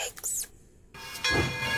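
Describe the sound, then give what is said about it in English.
A short train sound effect on the radio station Funky Essex 103.7 FM: hissing bursts like steam release, a brief pause, then a louder, prominent rushing noise with a sustained whistle-like tone on top. “All aboard! The next train up platform one is the Funky Express.”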